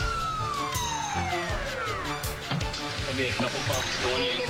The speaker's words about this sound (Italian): E questa è l'ambulanza.